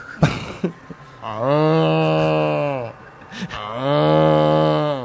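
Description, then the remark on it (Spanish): A cow moos twice, each a long, loud, drawn-out low call lasting over a second, separated by a short pause, with a few brief knocks and rustles at the start. “Pasó por radio, se fue, la vaca se fue.”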